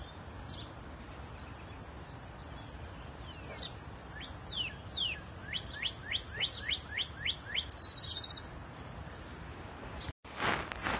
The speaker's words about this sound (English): Can anybody tell me what that bird is? I can't see it, but I hear it all the time. It must be tiny, but it's loud.